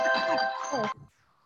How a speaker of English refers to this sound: Okay, my phone just rang.